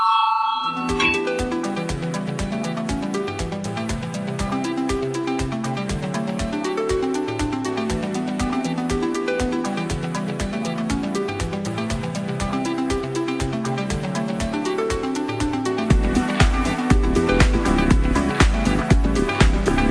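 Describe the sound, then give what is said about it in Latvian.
A Latvian parliament voting bell rings before a vote on proposal No. 15 submitted by deputy Valainis, a steady electronic melodic signal repeating quick tones in a rhythmic pattern for the full stretch, growing a little louder near the end, with no talking. “Lūdzu zvanu, balsosim par 15. Deputāta Valaiņa iesniegto priekšlikumu.”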